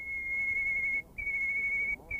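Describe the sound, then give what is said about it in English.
An isolation-reared male white-crowned sparrow song, lacking the markers of the local dialect: a long, steady, high whistled note, a brief break, then another sustained whistle at the same pitch, with a short gap before it resumes. “This is an example of the kind of song that a male white-crowned sparrow would develop if you rear it in isolation from the song of its own kind.”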